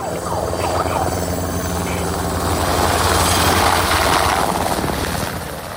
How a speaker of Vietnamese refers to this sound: Hơn 7.500 lính cứu hỏa và tù nhân đã làm việc với sự hỗ trợ của máy bay trực thăng để dập tắt những đám cháy chết người.